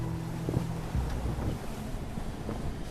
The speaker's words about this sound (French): on va se mettre à l'abri un petit peu du vent parce que ça, depuis 2 heures là, ça a forci, hein. Ouais, ça s'est pas mal secoué.